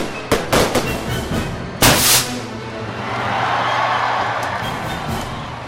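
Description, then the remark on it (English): A rapid cluster of sharp fireworks bangs, then one big booming burst, fading into a long crackling rumble with a few scattered pops, no voices heard. “I think part of it to me, part of what they enjoy, and part of the mystery of fireworks is seeing it appear seemingly out of nowhere.”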